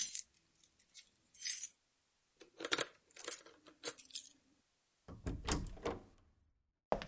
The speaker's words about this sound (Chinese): 我先把门打开。